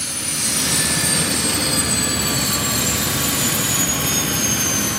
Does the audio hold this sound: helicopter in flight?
yes